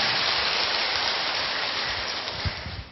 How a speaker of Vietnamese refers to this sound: Cố một lại một vòng nữa xem cả hội trường xem nào, xem nó có cái khí thế gì hơn không? 2, 3. Rồi, cho một chàng pháo tay thật to.